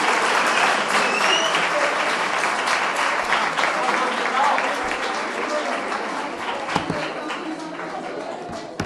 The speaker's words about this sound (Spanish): Un fuerte aplauso para nuestro compañero.